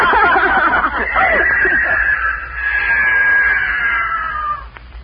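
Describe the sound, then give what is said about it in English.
A mountain lion going into the woods yowls in one long, loud, wavering cry that starts with rising and falling squalls, then holds a drawn-out high tone for several seconds before cutting off. “The mountain lion, he's going into the woods.”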